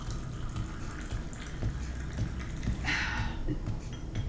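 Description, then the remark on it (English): Water runs steadily from a tap into a cup, a continuous splashing gush with a brief brighter hiss near the end as the cup fills. No one speaks. “Taps just fine, then.”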